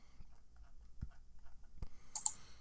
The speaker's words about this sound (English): Uh-oh. What did I do? Clicking buttons.